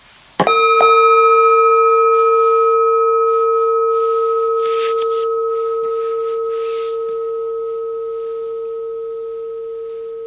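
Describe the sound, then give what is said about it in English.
A gong is struck, with a quick second hit just after, during a guided Tonglen meditation; its steady, ringing metallic tone hangs on, fading slowly for about ten seconds with no voices. “Let the gong lead you out into an open space. As the sound fades, let it carry you.”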